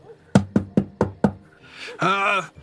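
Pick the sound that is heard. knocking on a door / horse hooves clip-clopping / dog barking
knocking on a door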